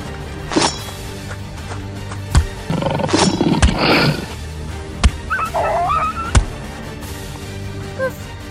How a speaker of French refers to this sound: Avec une flèche, ce loup est encore debout. Quel enfoiré! C'est malin de l'avoir énervé. Il nous fonce dessus maintenant. Baston!